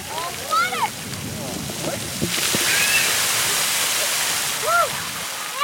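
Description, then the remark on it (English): Steady rushing and splashing water at a public splash pad with an oversized bucket about 4 feet tall on a tower of pipes and fountains, on a day near 90 degrees; a broad continuous spray with a big surge in the middle, while children's voices and shrieks ring out faintly in the background. “He's headed for an oversized bucket, about 4 feet tall and almost as wide in diameter, perched on a tower of pipes and fountains.”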